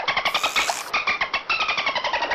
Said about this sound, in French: Le dauphin siffle.